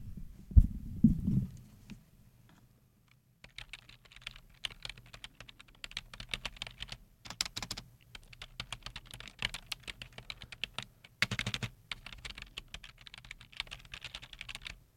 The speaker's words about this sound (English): my tried and true that I always go back to is just simple tapping. So here we have some. Keyboard tapping.